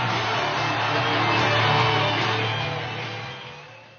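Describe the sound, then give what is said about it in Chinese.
A TV show audience applauds to welcome five guest performers, a dense, steady wash of clapping with faint crowd noise underneath, holding strong for a few seconds before tapering off toward the end. “我们有请今天参演的五位嘉宾，掌声欢迎他们。”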